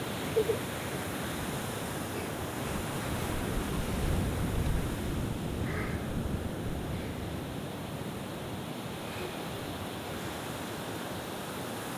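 ocean waves

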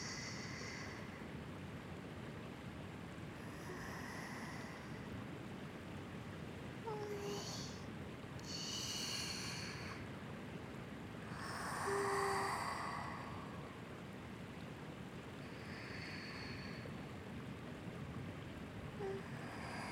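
ocean waves

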